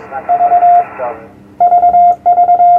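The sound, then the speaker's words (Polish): Morse code sent with a homemade electronic key as a demonstration: loud, evenly pitched beeps keyed in quick groups of short and long tones, with a brief pause between bursts and faint voices underneath at the start. “Tak wygląda alfabet Morsa.”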